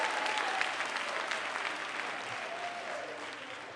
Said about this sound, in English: Somebody shout their loudest hallelujah. Give Jesus one more mighty hand clap and you can be seated.